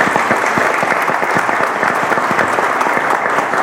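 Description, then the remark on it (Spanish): Steady audience applause for magistrate Lino Pedro Bolaños Cayetano, representative on the Transparency Committee of the Tribunal Superior de Justicia del Distrito Federal, a dense wash of many hands clapping at an even loudness throughout, with no voices rising above it. “También, por favor, un aplauso.”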